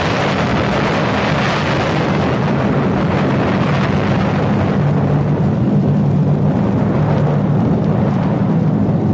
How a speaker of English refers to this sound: Margaret Gray is in Baghdad. Margaret, you have had 6 bombs dropped on you protesting America's involvement in a war.